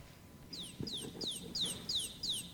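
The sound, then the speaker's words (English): A baby chick peeps repeatedly, about six high, thin, downward-sliding cheeps in a steady rhythm, fairly clear over a low, muffled background rumble. “A little baby chick, that's right.”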